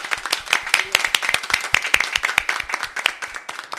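A crowd claps steadily together, a dense patter of many hands with sharp, overlapping slaps sustained throughout at a fairly loud, even level.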